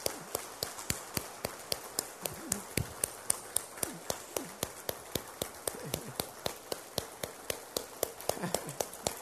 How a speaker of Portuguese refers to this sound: Todos os homens. Você vai olhar para as mulheres à sua volta agora e você vai aplaudir. Essas palmas são para vocês.